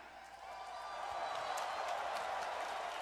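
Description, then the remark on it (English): A wrestling crowd of NXT fans at Raw roars and cheers in a steady, dense wash of noise that swells slightly after the first second, with scattered clapping and shouts running through it and no clear speech. “And listen to the crowd.”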